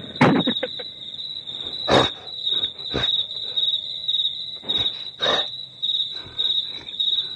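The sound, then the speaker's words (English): Crickets chirp in a steady, high-pitched trill that runs the whole time, with several louder, brief rustling bursts breaking in at irregular moments. “When we let the crickets play too long, some of the other forest animals come out.”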